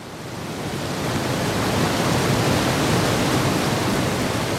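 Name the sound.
flowing river water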